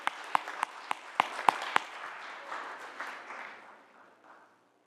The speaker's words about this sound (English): So thank you. Let's give a round of applause.